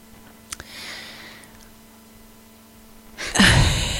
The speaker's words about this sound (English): I'm just waiting for your cough to be done.